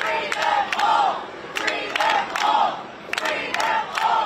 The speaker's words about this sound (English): Video shows police throwing flash bangs to disperse a crowd as demonstrators chanted, "Set them free, let them stay, and ICE out of L.A."